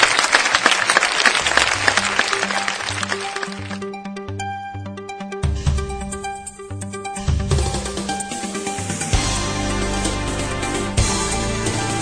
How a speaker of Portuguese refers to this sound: Palmas para o nosso top 10.